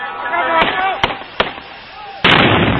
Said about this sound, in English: The last bang is that of the suicide bomber, blowing himself up. 21 people in all were fatally injured here. You can hear their cries of pain and shock.